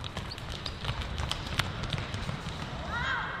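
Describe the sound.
Quick, rhythmic footfalls of several runners doing skip A and skip C running drills, striking the ground in a steady patter, with faint voices and outdoor noise in the background.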